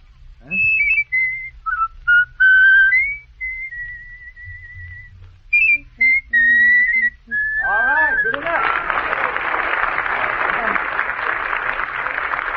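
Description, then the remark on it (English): A man whistles a bright, lilting tune, with pitch slides and held notes over about eight seconds, then a burst of applause from an audience follows. “Now can you whistle it”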